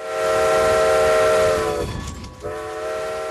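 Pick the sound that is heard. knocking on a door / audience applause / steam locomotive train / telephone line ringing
steam locomotive train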